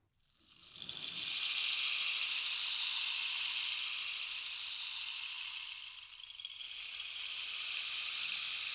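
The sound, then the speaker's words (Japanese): A rainstick is tilted, releasing a steady, bright cascade of tiny pattering grains that briefly thins out partway through, then swells back into a continuous rain-like hiss. No voices. “これはレインスティック。雨を降らせる。”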